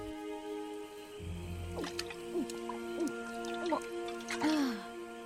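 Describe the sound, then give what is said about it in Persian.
Someone sits down for a short break to drink water, with a series of five or so wet gulping, dripping sounds at a steady pace. A steady humming tone runs underneath the whole time. “هی بچه ها، میشه برای آب خوردن کمی بشینم؟”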